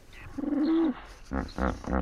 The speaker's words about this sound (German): Übersetzt heißt Wieshonk erst Keuch, dann Hub. Also das ist ein typischer Flusspferdruf. In dem Fall stammt das Pferd aus Mosambik.